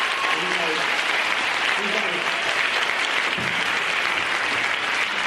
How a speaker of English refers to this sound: First of all, can you give them a round of applause for everyone?